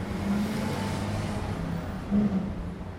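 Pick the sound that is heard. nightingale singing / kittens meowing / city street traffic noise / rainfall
city street traffic noise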